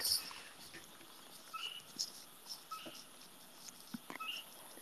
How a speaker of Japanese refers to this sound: 何それ、何聞こえ？ 多分鳥。 へえ、怖。 怖いか。 横が田んぼだから。 キョイって。 キョイキョイキョイ。 横が田んぼです。